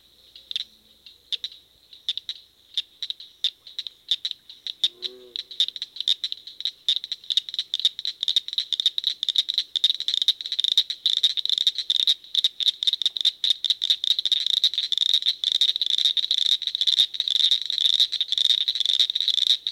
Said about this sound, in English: The tiny cricket frogs are only 1 inch long. They make metallic clicking sounds. The call series of the northern cricket frog starts out slow and then speeds up before coming to a close.